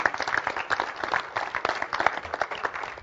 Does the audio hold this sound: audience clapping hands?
yes